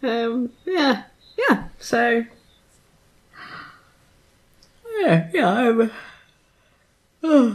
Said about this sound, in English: I'm yawning. You're sleepy. That's what you. I am sleepy.